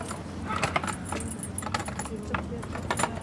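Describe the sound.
Keys jangle and clink in repeated bursts, metallic rattles over a steady low rumble like a road, with brief murmurs of voices in the background; a city tour guide carries the key to the Bayersturm, a 40-metre, six-storey medieval town-wall tower.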